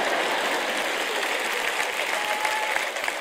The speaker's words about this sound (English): Yeah, good. I got one person over here with a tiny clap.